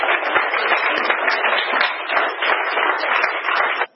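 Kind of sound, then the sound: crowd, audience applause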